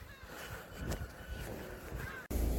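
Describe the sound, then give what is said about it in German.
Seagulls screech and call over a steady low outdoor rumble in Glasgow at 5:40 in the morning as the city wakes, with a few sharper cries standing out before the sound cuts abruptly near the end. “Die Stadt erwacht und diese Möwen, die kreischen herum, das ist unglaublich.”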